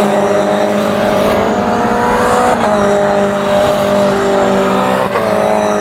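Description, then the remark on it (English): A race car engine drones steadily at high revs with strong harmonic tones, tires scrubbing and brief jolts as the car rides over curbs, loud and continuous with no talking. The car is at a section of VRR where drivers hit the curbs and bounce the car before going up a hill. “Basically, this is the spot in VRR where you have to hit all these curbs just right, bounce the car off.”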